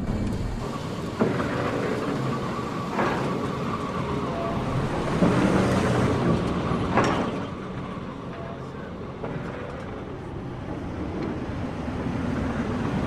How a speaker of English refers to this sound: Jack's pickup bowls down a dirt road past a donkey pump.